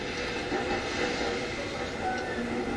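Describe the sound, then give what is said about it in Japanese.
A dense, steady blend of five ambient sounds from an NHK-made sound source, with rumbling train noise alongside piano notes, chirping insects, washing waves and a ticking clock, all layered together at an even, moderate level, used for selective attention practice. “ピアノの音ですね、虫の声ですね、それから電車の音、あと波の音、それから、あとは時計の音、この5つが入ってますね。”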